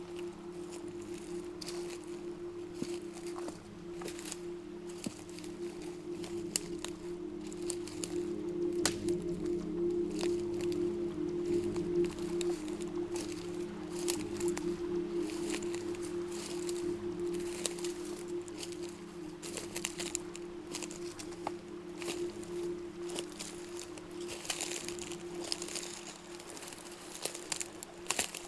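Footsteps crunch and crackle over ground strewn with dried ferns, twigs and branches in a steady walking rhythm, fairly loud, with a constant low hum underneath and no voices.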